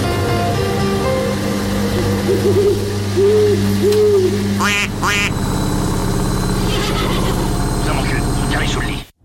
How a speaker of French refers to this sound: Je dirais un canard, une chouette. Un canard. Un hibou. Une chouette, une chouette hibou. Je prends les deux.